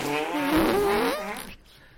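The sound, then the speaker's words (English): A wobbling, buzzy fart sound stretches for about a second and a half, fairly loud, its pitch wavering before it cuts off into near silence. “That was meant to be a fart.”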